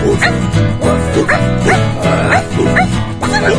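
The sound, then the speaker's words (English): A voice imitates a dog barking, giving a steady run of about seven quick woofs over a bright musical backing, each bark clear. “What does a dog say?”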